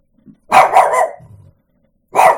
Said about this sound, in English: It sees its own reflection and it thinks it's another monster. That's kind of stupid, don't you think? Oh, yes, bark. Bark at your reflection, buddy.